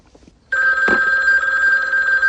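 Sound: telephone ringing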